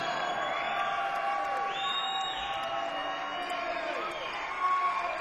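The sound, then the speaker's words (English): A large live concert audience cheers and whoops continuously, many voices blending into a loud, sustained roar with scattered high shouts rising above it. “And I want to thank all you guys for coming out and being a great audience.”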